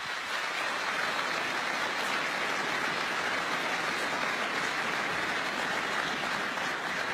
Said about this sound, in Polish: Ogromne brawa dla Państwa.